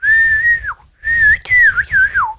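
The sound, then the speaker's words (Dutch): A person whistles a birdlike call: a long steady high note that dips at the end, then a string of warbling, sliding phrases rising and falling in pitch, loud and alone. “jij kan een vogel nadoen, hè?”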